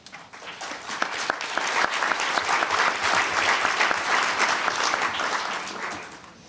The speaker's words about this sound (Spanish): A todos ellos, hermanos y hermanas, colegas del Foro Permanente, un aplauso.